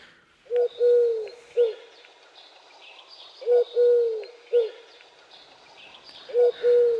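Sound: eurasian collared dove cooing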